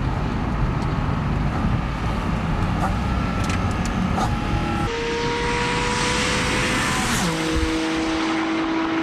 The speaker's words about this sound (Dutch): Ja, goh. Pop, pop, pop, pop, pop. Lekker hoor. Hè? Ja. Porsche 718 GT4 RS.